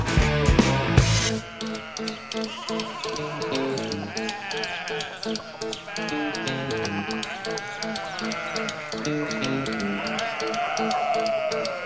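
Sheep bleat steadily and fairly loudly, several wavering calls overlapping throughout, with a short burst of noise at the very start and no talking.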